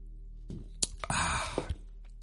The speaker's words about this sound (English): And as I reach over to the side of my studio here and take a sip of beer,